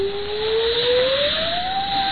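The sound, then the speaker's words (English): A thin, steady whistle of wind in a storm, heard aboard a ship bound for Galway, rises gradually in pitch over a constant rushing roar, sustained without a break for about two seconds, with no voices. “It is but a whistling of the wind.”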